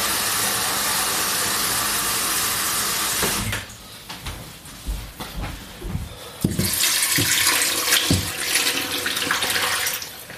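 A tap gushes steadily into a pot being filled with plenty of water for cooking meat, breaks off amid a few clunks and knocks, then runs strongly again until the end. Loud, with no voices.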